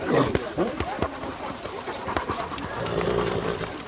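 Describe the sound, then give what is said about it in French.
A pack of large hunting hounds bustles around the recordist, with scattered yelps, panting and paw scuffles, while the hunt master rides on horseback just ahead, hooves clopping, and people talk over the steady commotion. “me trouve au milieu des chiens, juste derrière le maître d'équipage qui est à cheval.”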